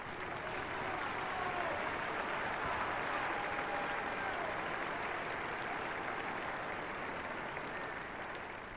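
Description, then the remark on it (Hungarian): Sustained applause from a large crowd of pilgrims in St. Peter's Square in the Vatican thanking Pope Francis for his teaching and blessing, a dense, steady wash of many hands clapping at once that holds at an even level throughout, with faint voices mixed in. “Ma is tapsal köszönik meg a vatikáni Szent Péter téren jelenlevő zarándokok Ferenc pápának a tanítását, az áldását.”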